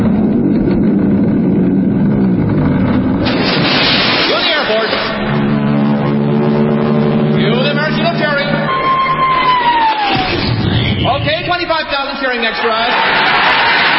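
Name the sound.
airplanes flying overhead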